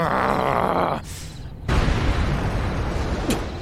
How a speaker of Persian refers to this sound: زبانه ی انفجار جلوی دید منو میگیره.